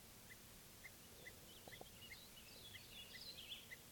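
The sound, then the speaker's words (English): A wild bird gives a series of short, sharp alarm calls at a steady, repeated pace, with higher twittering toward the end. The calls are fairly faint over a soft outdoor background. “Series of alarm calls.”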